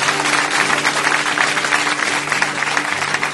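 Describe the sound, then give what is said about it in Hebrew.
Sustained audience applause for the guitarist during a live Radio Kol Chai broadcast at Yeshivat Ma'arava, a dense wash of many hands clapping steadily at moderate loudness, with faint low hum beneath and no voices standing out. “שגם יתנו לו מחיאות כפיים על הגיטרה.”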